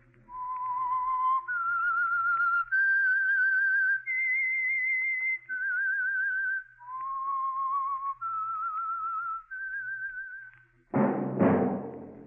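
radio show theme whistle

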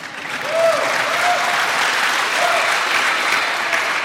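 audience applause

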